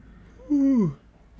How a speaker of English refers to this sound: Oh man, this is so disrespectful to yawn towards an audience of 50-60 people watching my podcast. That is very disrespectful. I apologize for that.